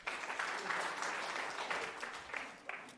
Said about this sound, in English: 40, well done. Give him a clap.